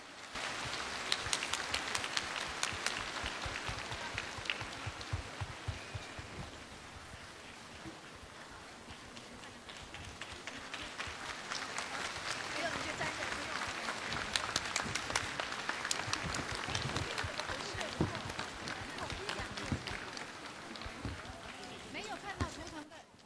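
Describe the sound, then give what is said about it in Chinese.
Sustained, dense applause from a large audience, a steady crackling wash of many hands clapping that eases slightly partway through, then swells again and continues loudly to the end; the warmest applause, welcoming station head Lu Junhong to look at totems. “下面让我们用最热烈的掌声恭请尊敬的卢军宏台长为我们慈悲看图腾。”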